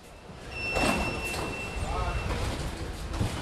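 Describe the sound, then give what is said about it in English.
A metro train rumbles through the elevated Stalingrad metro station in Paris's 19th arrondissement with a steady, fairly loud roar and a thin high electric whine, a door sliding briefly, while indistinct voices murmur in the background. “The metro station Stalingrad in Paris's 19th arrondissement was named after an epic World War II battle.”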